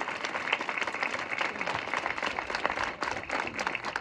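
Sustained audience applause for the families at a housing plan event, a dense steady patter of many hands clapping at an even loudness throughout, with no voices standing out.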